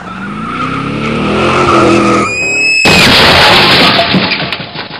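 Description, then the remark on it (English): A scooter skids out on a rain-slicked road after taking a corner too fast: a rising engine whine and tire squeal give way to a sudden loud, harsh scraping slide into the next lane that continues for a couple of seconds, with no voices. “It had been raining, the road was super slick, and I wiped out completely on my scooter. The scooter slid out from like underneath me into the next lane, almost got hit by an oncoming car.”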